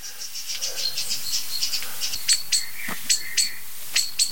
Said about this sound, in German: Was wirklich interessant ist zu beobachten gerade, ist, dass die Amsel an den gleichen Stellen sich hinsetzt, laut schimpfend, an denen es die Singdrossel vor ein paar Tagen, oder heute noch, gestern hat sie es getan, da war die Singdrossel heftiger